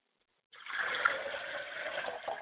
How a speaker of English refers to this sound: Now, we pour libations to the east and we say Ashe.